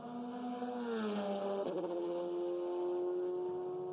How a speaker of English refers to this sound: And Corvette number 3 out on the track at the moment for Jordan Taylor. Nick Tandy in the number 4. Great to hear. That's mid-engines C8.